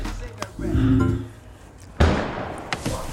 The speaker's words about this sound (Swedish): Vad var det? Inget. Säkert bara en smällare.